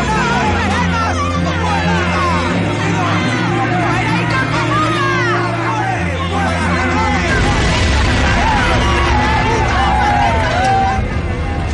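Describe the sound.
At night outside a church in Montgomery, an angry crowd of protesters pounding on a car shouts and yells over one another in a continuous roar of overlapping voices, with a steady low droning hum running underneath throughout.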